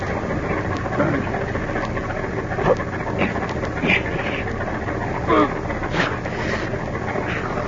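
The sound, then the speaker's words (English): A truck engine idles steadily in a closed garage, run to fill it with carbon monoxide gas: a constant low rumbling drone with a broad noisy hiss, broken now and then by brief faint muffled sounds. “Start the motor.”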